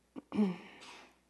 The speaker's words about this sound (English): Bless you.